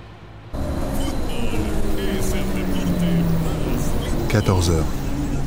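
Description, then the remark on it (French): A bus engine rumbles steadily as the bus reaches the Tres Cruces pass on a mountain road, its low drone rising and falling in pitch as it labours and shifts gears, with muffled background chatter faintly beneath the constant road noise. “Le bus atteint enfin le col Tres Cruces.”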